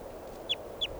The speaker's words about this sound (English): This is bird 600.